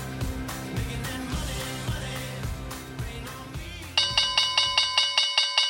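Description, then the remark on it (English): A bright bell rings in a quick, steady series of repeated strikes, loud, cutting in after several seconds of busy background music that fades beneath it. “So let's ringing the bell with the viewers of Trading Secrets”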